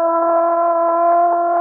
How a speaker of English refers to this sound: Listen. What's that? The prison siren